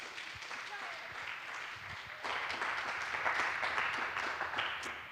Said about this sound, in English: Okay, give him a big round of applause, because we're with a few people, so make a lot of noise for